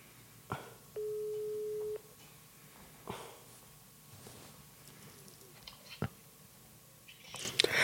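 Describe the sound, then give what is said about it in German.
A single steady, mid-pitched ringback tone of an outgoing phone call sounds for about one second, followed by quiet line hiss and scattered soft clicks and handling noises, with a sharper crackle at the end. “Eins, zwei, drei. Es klingelt. Es klingelt.”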